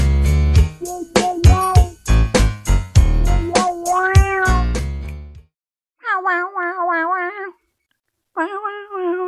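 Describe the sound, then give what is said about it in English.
A bouncy, rhythmic jingle from a foot odor spray commercial plays with cat meows mixed in, then cuts off, leaving two long, wavering meows heard on their own, clear, separated by a brief silence. “I don't know if it's possible, maybe without the meows, but doesn't that music sound like the sneak music for the Mom Detectives?”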